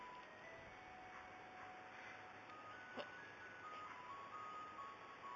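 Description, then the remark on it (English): An ice cream truck plays its tinkly, looping jingle while people buy ice cream at the side of the road, a thin high-pitched melody of sustained tones over a steady hum of engine and street noise, with one brief click partway through. “We're actually witnessing people buying ice cream.”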